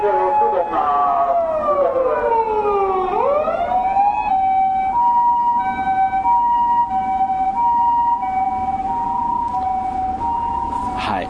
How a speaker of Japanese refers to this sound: 救急車が通っていきました。